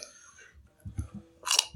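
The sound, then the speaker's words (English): Close-up crunching of a raw carrot, a few crisp bites and chews in quick succession, with a sharp bright crunch near the end, loud and right at the microphone. “And I'm going to crunch on a carrot into the microphone.”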